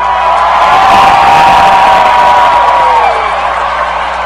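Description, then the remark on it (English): A loud stadium crowd screams and cheers in a sustained roar, with whoops and shrieks rising over the dense wall of noise before it slowly eases off, screaming to judge a player's backflip. “I need everybody in the stadium to help judge. If you think the backflip from Chad Hall deserves a winner, let me hear you scream”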